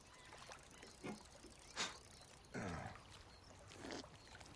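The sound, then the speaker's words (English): A rowboat glides on a calm, quiet lake, its oars dipping in four soft, splashy strokes spaced roughly a second apart, quiet, with no one talking. “Wayne and Bad are in a boat on a quiet lake.”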